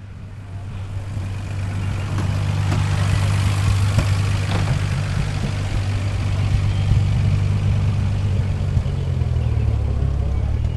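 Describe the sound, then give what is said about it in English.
The engine of a 1936 Bentley Le Mans Special vintage car idles steadily, a deep, even rumble that holds throughout with no other prominent sounds. “This is the tale of two cars, or at least in part, it's that sort of tale, and one of the cars is a 1936 Bentley Le Mans Special.”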